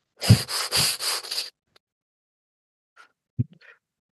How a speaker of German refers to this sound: Okay, die Übung geht so, dass wir erstmal ganz schnell und tief atmen und dann immer langsamer und flacher werden. Ja? Okay. Wir atmen ein und los geht's.